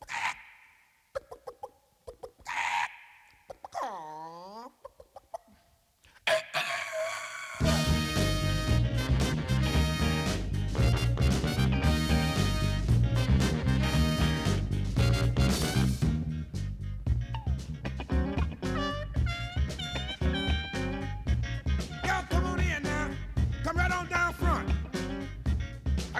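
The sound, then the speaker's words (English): Squawky, chicken-like clucks open the track before a loud, driving funk song for a dance kicks in with a full band and a steady, punchy groove that plays on to the end. “Allez, assez de mélancolie, on va danser. Alors, poussez les meubles, ça va groover sévère.”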